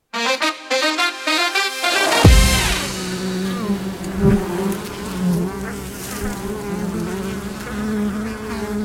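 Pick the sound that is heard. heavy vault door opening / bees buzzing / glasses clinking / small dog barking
bees buzzing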